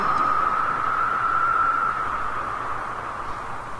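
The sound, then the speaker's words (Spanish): Steady, hissing wind blows throughout with a thin whistling tone riding on top, easing slightly toward the end. No voices are heard. “¿Escuchan el viento?”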